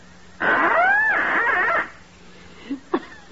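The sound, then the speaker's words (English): A duck call blown to imitate the mating call of a female mallard, in one long, loud, reedy note lasting over a second, its pitch bending up and then sliding down, followed by a few short, fainter squeaks. “I take this trusty little duck call, place it to my lips, and gently and sweetly, I sound the plaintive mating call of a lovesick lady mallard.”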